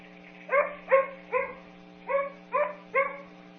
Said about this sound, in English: This next one is to look at, to listen to the difference in frequency or pitch range, so how modulated the pitch is. Okay. This first one should be one that has little modulation, so it's kind of a flat bark.